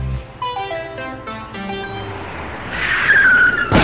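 A bus tire punctures: after a few descending tonal notes, a loud rushing hiss of escaping air builds with a thin whistle, then cuts off abruptly. No one speaks.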